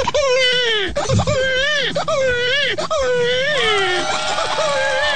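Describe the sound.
A man's voice imitates a newborn baby crying, loud, with rising and falling wails broken by short gasps, repeating for several seconds.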